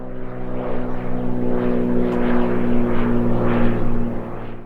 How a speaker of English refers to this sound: He flipped a few switches and we started rolling forward. The plane took off and zoomed over all of my neighbors' houses.